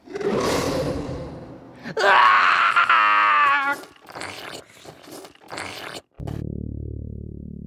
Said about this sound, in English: From outside, I can see nothing. All I can hear is my best friend screaming. The sound makes my stomach drop as my blood instantly runs cold.